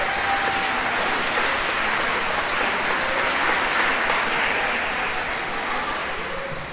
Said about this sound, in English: So how about a round of applause for you guys? Go in the extra mile.